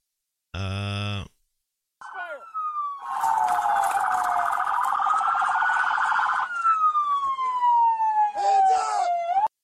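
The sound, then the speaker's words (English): A short blaring horn blast, then a police siren wails up and down continuously over rushing engine and road noise, as police cars chase westbound on 25. “the amount of police cars, all that money wasted because of one crazy woman.”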